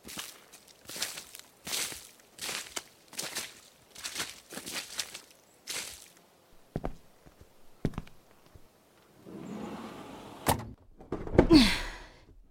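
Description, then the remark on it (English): A steady run of footsteps, then a few sharp knocks as a glass door shuts, followed by a rough scraping rumble of a heavy shelf being pushed across the floor back in front of the glass door. “We pushed the shelf back in front of the glass door”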